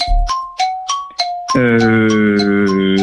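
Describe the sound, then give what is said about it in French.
A quiz-show gong sounds for time up as a contestant answers a comic-book question about Boule et Bill: four quick, bright metallic dings, then a loud, sustained ringing tone that pulses steadily until the end, with no voices. “C'est qu'il y a eu le gong qui est arrivé.”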